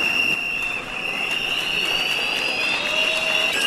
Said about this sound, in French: On siffle dans la salle, on tape sur les tables. Un geste initié depuis quelques jours par la société civile du Sud Kivu à chaque 12 heures pile pour réclamer les élections présidentielles dans les délais constitutionnels.